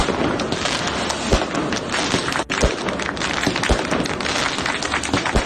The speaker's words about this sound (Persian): مراسم تولد 64 سالگی محمود احمدی نژاد رئیس جمهور سابق ایران با حضور تعدادی از طرفداران وی در میدان 72 نارمک تهران برگزار شد. این مراسم تا جایی پیش رفت که طرفداران احمدی نژاد برای وی توپ و ترقه هم در کردند